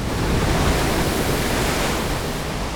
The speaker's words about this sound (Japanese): ずいぶん海荒れてるね。サーフィンにはもってこいかもしれないけど、これじゃ泳げないわ。